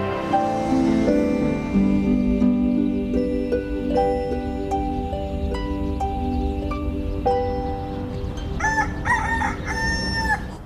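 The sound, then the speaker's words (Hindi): A rooster crows loudly in a neighbourhood, letting out several drawn-out crows in succession, ending with a pair of sharp, wavering calls. No one speaks. “इस मोहल्ले में तो कोई भी मुर्गा नहीं था।”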